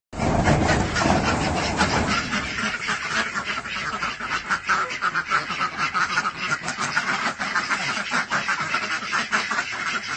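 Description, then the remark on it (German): A flock of geese honks and cackles continuously as they waddle, many overlapping calls, loud and busy throughout, with no talking. “Im Gänsemarsch rein, im Gänsemarsch raus.”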